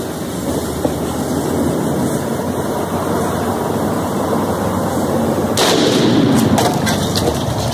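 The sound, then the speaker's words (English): A steady rumbling roar of noise, then a sudden loud explosive blast partway through as a beer can partly filled with explosive blows up inside a microwave in the middle of a field, followed by a few sharp crackling bursts as the boom dies away. No one speaks. “That's a beer can full of this stuff, not even full, in a microwave in the middle of the field, by the way, in case you were wondering.”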